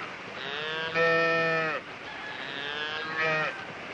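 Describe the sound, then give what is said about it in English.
A Jersey cow moos in long, drawn-out calls, swelling louder twice with a brief dip between, its low groaning tone steady and clear with no voices around. “A long time since I've seen a Jersey cow.”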